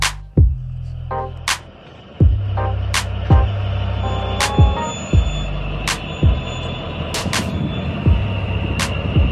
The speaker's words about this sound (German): Das, was wir hier hören, das ist der 2800 PS Caterpillar-Motor der Diesellok 219001. Sie gehört dem Ein-Mann-Unternehmen Lok Rapid von Roland Sankuhl. Er hat die Lok vor einigen Jahren erworben und wieder betriebsfähig aufgearbeitet.